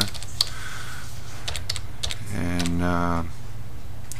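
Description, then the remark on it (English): Quick, irregular computer keyboard clicks tap out in short bursts as someone types into an account for the game Lord of the Rings Online, over a low steady hum, with a brief stretch of voiced humming or speech sound in the middle. “But what I'm typing into is the account.”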